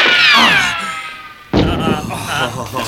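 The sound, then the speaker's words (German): A high, wavering whistle slides downward, then a sudden sharp burst gives way to a loud, sustained fizzing hiss as a flare pistol loaded with a red flare cartridge is fired after a countdown. “Ich leg mal die Patrone in die Pistole ein.”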